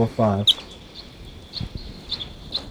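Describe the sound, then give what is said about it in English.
A wild bird, recorded as bird 745, starts calling with a series of short, high-pitched chirps at roughly half-second intervals, fairly faint, after a brief burst of a human voice at the start. “Starting to call.”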